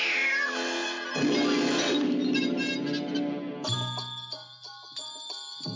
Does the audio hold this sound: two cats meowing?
yes